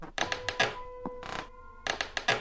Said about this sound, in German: Viel braucht es übrigens nicht, damit unser Angstkino im Kopf anspringt. Ein paar Schritte. Eine knarzende Diele.